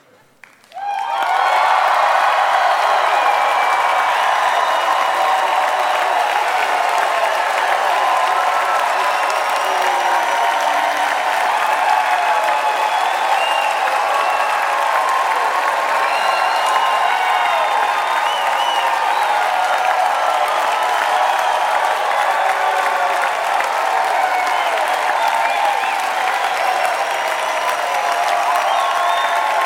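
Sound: crowd shouting and cheering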